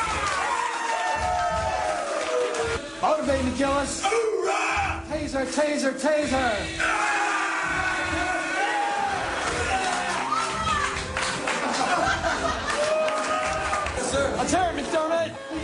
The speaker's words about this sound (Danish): De bygger op til det hver gang. De råber højt. De håner hinanden, hvis nogen viser smerte. Og jubler af dem, der tager skuddet uden at kny.